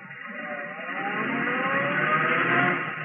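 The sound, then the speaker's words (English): A car drives along with a steady engine hum and road noise, swelling slightly as it goes, continuous with no voices. “It wasn't a long ride. Her cab slowed down and stopped.”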